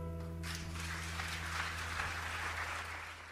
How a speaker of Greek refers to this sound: Και εμείς χειροκροτούμε